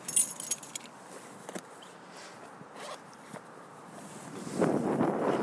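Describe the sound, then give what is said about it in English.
Jingle of keys with a few sharp metallic clicks as a door is locked on the way out into freezing, windy, snowy weather, followed by rustling and gusty outdoor wind noise. No one speaks. “Just lock this.”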